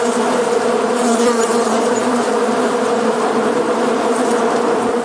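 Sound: swarm of bees buzzing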